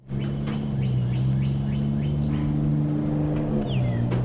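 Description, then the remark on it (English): A steady low engine rumble from cars idling and pulling up behind a school on a warm, sunny Monday morning, with birds chirping in short repeated calls above it, outdoors. “Cars pull up behind Owl Creek School on a warm and sunny Monday morning.”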